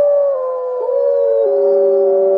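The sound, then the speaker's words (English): A wolf pack in Yellowstone National Park howls together in long, sustained, overlapping notes that hold steady and shift slightly in pitch, loud, with no talking. “Visitors to its Idaho Lodge can hear loons and the occasional wolf pack in nearby Yellowstone National Park.”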